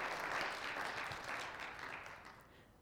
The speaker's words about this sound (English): Let's give the Lord a good clap offering here this Sunday morning.